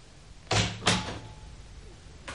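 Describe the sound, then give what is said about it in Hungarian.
An office door opens as someone enters, with two quick, solid clunks in close succession, followed by a quiet hush with no one speaking. “Feje felett a falról Sándor király nézett barátságtalanul az ajtóra és az ajtón belépőkre.”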